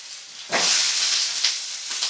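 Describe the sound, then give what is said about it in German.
Potato pancakes sizzle in a frying pan as three more are thrown in, a steady crackling hiss that suddenly swells louder, then flares up briefly twice more. No one speaks. “Also nicht nur sprichwörtlich, sondern jetzt auch noch weitere drei Kartoffelpuffer in die Pfanne wirft.”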